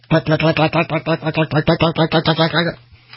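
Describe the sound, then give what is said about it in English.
A man vocally imitates an engine cranking and trying to start after a canister oil filter has been put in, a rapid string of about fourteen rhythmic, buzzy pulses that stops abruptly, followed by a faint hum. “See, now you know why I'm not … singing, because my sound effects aren't the best.”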